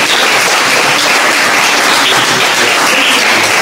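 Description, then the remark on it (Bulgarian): Steady, dense applause from a crowd, many hands clapping at once in a continuous loud wash of noise that holds evenly for a few seconds with no voices standing out. “Виж как им хареса тук вече, получи аплодисментите.”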